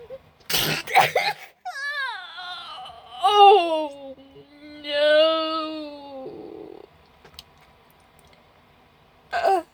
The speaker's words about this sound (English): I don't want to sneeze. I don't want to sneeze. I can't take any more sneezes. I'm like a dog trying to sneeze.